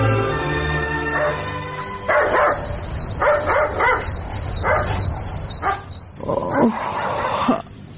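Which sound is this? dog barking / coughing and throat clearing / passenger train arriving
dog barking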